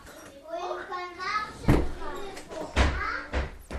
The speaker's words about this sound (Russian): Так, давайте сразу куда-нибудь попробуем нырнуть в одну из комнат от детских голосов, чтобы они не очень забивали рассказ.